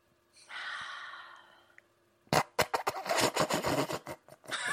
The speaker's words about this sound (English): I'm doing yoga. No, you're not doing yoga. You're just fucking sitting and breathing. That's my version of yoga. Sitting and breathing.